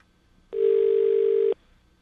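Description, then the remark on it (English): A single ring of an outgoing phone call's ringback tone: one steady, low-pitched electronic buzz lasting about a second, loud and unbroken, with quiet before and after and no voices. “There's two kinds of rings with this phone number.”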